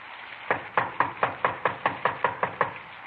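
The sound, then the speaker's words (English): A rapid, steady run of about eleven knocks on the wooden door of a small redwood house in the San Fernando Valley on a rainy night, fairly loud, evenly spaced over a few seconds with no voices. “Frank tried the door.”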